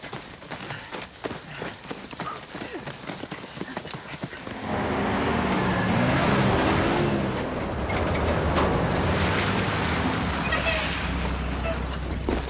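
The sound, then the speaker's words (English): Rapid rhythmic tapping and thuds give way to a loud, steady rumble of a truck leading a small convoy out of a camp, followed by two open-topped lorries packed with troopers, a low engine drone with broad roaring noise that lingers to the end. “His truck is followed by a pair of open-topped lorries packed with troopers.”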